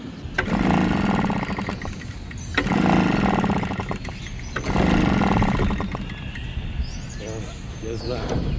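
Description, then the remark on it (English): A small gasoline leaf blower, acting up at a memorial, sputters and revs in three uneven, loud surges, sagging back between bursts as if struggling to keep running. “His gasoline-powered leaf blower is acting up today, so Hudson is forced to sweep the steps of the memorial by hand.”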